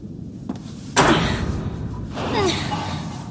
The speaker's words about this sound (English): That door up ahead looks jammed. Where do I go? Please try opening the door.